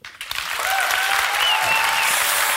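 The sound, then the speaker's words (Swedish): An audience breaks into loud, sustained applause, a dense steady wash of clapping that swells quickly and holds at full strength, with a few faint whistles riding over it. “Jag vill att ni ger en stor applåd”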